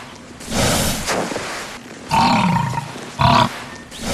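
A European bison grunts in three deep, rough bursts: a long drawn-out one, then another, then a short sharp snort. The calls are loud, with no voices.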